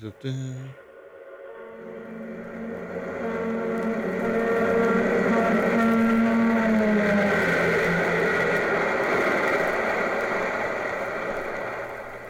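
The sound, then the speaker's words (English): A droning engine with a steady harmonic hum swells from faint to loud over several seconds, then holds strong as it passes, its tone shifting slightly along the way. “En we gaan gewoon beginnen met het Doppler-effect.”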